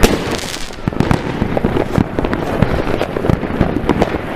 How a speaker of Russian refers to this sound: Салютов реально до хрена в данных местах. И везде, блин, салюты красивые.